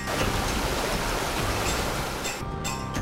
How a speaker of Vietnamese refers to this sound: Ven theo con đường núi thơ mộng, đến với bản Thái ở Tú Lệ, để hòa mình vào dòng suối sinh dưỡng mang nguồn năng lượng của núi rừng.